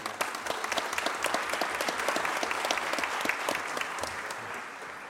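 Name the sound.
audience applause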